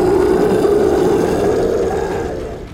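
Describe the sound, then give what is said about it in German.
A game master in a tabletop role-playing game imitates a creature's roar filling the whole room after it spits out the players' characters: one long, loud, rough growling bellow held for nearly three seconds, slowly fading at the end. “Dann nehmt ihr eure Schadenspunkte und die Kreatur spuckt euch aus, als wärt ihr ein alter Kaugummi. Und brüllt den kompletten Raum voll mit einem”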